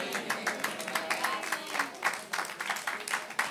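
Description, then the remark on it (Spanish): Five people clap unevenly for a few seconds, the sharp hand claps overlapping in a loose, sparse patter rather than full applause, moderately loud. “Solamente 5 aplauden porque son los que entienden.”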